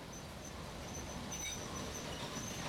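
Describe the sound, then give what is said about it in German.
The Ostexpress train rolls steadily into a station, a continuous low rumble with faint high-pitched wheel squeals ringing above it, sustained throughout. “Ach, da fährt gerade der Ostexpress ein.”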